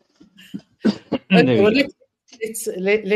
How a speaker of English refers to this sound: And just as you were speaking, I felt the first hints of an esophageal irritation that might turn into a cough. Damn it.